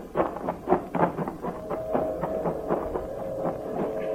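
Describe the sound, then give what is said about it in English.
A freight train rolls past, its wheels clacking in a steady rhythmic beat over a low rumble, with a sustained metallic whine humming underneath. No one speaks. “Hey, what are you stopping for? That train was... Oh, you'll be hearing a million of them.”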